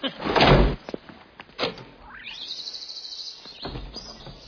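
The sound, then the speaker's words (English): Someone struggles to get a door open: heavy thumps and rattles as it's tugged, a long rising squeal as it scrapes partway along, then another jolting thud. Fairly loud, no talking. “You can't even get the door open.”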